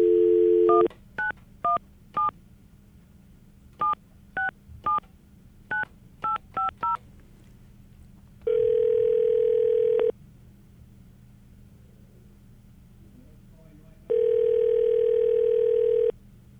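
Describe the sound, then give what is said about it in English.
A phone call being placed to Brooklyn, New York: a brief dial tone gives way to about a dozen quick touch-tone beeps in short clusters, then two long, steady ringback tones separated by a pause. No one speaks. “Let's give him a buzz.”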